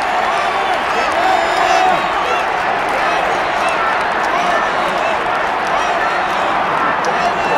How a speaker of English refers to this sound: This crowd, obviously, all very excited.